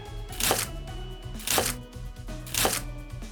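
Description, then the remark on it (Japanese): A kitchen knife cuts Munitake mushrooms into bite-sized pieces on a cutting board with three evenly spaced, fairly crisp cuts about a second apart, set against steady soft background music. “ムニタケを包丁で手頃な大きさに切っていくにゃ。”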